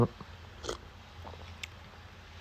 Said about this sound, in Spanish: Voy a dejar mi café aquí. Voy a... Espera, lo voy a... Un sorbo.